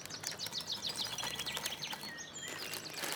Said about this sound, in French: n'a-t-il pas une saveur plus apaisante lorsqu'il a pour compagnon ses oiseaux, pour manteau ce rideau d'arbres et pour odeur l'humus encore humide de la rosée matinale?